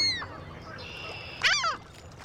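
herring gull calls

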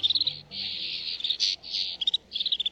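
snow bunting song

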